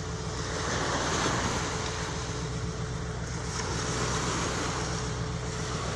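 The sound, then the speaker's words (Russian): Steady roar of sea waves washing onto a beach at the Bugas Spit near Anapa, Krasnodar Krai, on 18 July at 1 pm, mixed with constant wind noise, filling the whole recording at an even level with no voices. “Давайте посмотрим небольшое видео с Бугасской косы.”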